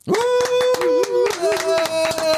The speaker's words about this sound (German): Ich klatsche schon mal, es ist super, und jetzt macht ihr es dann, das ist mein Standing Ovations.